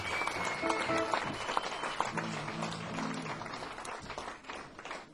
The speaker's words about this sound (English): Also another big round of applause for … for opening up the night.